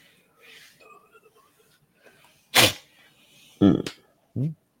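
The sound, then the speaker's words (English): Sniffling: a few short, sharp nasal bursts, one loud and breathy, then two more with a voiced, snorting edge, after a stretch of faint low murmuring. “I don't know what you heard, but I was sniffling a little bit.”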